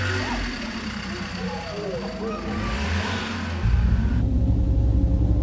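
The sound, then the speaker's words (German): A car engine rumbles steadily, its low drone swelling louder partway through as if revving, while voices and other faint sounds mix in above it. The car has just been found and started. “ich habe ein Auto gefunden und zum Laufen gebracht. Komm, steig schnell ein.”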